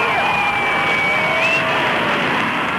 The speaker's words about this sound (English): Military delegation coming off first. There's Mrs. Kennedy, and the crowd yells, and the President of the United States.